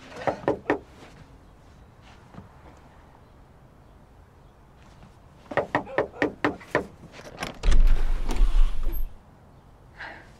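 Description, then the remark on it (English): Knocking on the front door of a small, rundown house in New York City: three quick raps, a pause, then a firmer run of about six knocks, followed by a heavy, low rumbling clatter. No one speaks. “Walking up the front steps, Caitlin knocks on the door.”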